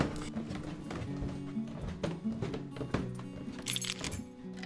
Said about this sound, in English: stomped up the wooden steps